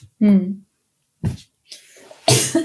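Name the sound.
coughing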